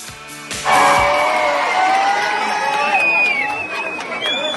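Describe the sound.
A loud crowd of young people erupts in cheering and shouting just under a second in, many high voices yelling together and holding steady to the end, lively, welcoming a returning Survivor contestant as a hero in front of the statue of Achilles in Farsala.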